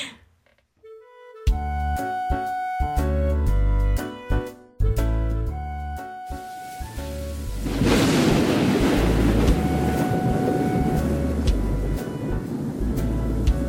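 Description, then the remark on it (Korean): A musical intro of chiming notes and drum hits gives way to a heavy, sustained, loud rumbling wash like thunder rolling through steady rain on a rainy day, as lightning strikes over the top of a hillside shantytown neighbourhood, with no voices. “수잔의 하숙집이 있는 달동네 꼭대기에서 꽈릉하고 번개가 쳤다.”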